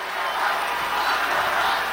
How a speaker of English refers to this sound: And you can hear the crowd chanting, lock her up there.